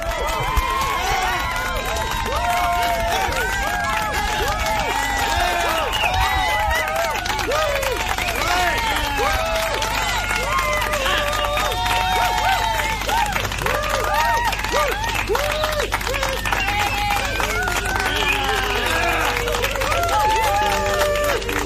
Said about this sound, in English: And right now, we're just going to show our appreciation by giving them the biggest round of applause we can. So get by your windows, get by your front door. Let's do this.